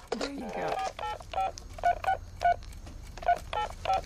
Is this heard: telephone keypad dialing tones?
yes